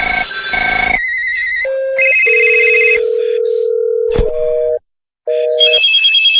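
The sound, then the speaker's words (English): A quick series of loud electronic telephone ring and tone effects from the XFX sound effects collection, shifting in pitch from one burst to the next, with a short silence before a final ring. No one speaks. “Phones.”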